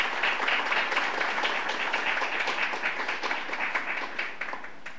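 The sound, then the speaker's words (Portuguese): A crowd at a ceremony applauds the Municipal Chamber of Araguari, many hands clapping in a dense, even wash of sound that stays fairly loud throughout and tapers slightly toward the end, with no voices over it. “Nosso aplauso a toda a Câmara Municipal de Araguari.”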